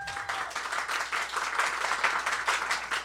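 An audience claps steadily for about three seconds to vote for a contestant, a dense wash of many hands applauding at once, moderately loud and sustained without pause.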